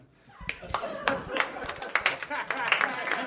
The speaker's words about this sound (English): You guys are clapping wearily like anyone asked you to clap.